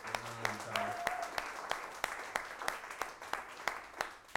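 A crowd applauds steadily for several seconds, a dense wash of clapping punctuated by sharp, evenly spaced claps, with a brief voice or whistle near the start.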